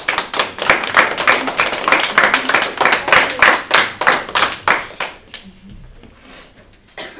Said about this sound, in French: On peut les applaudir.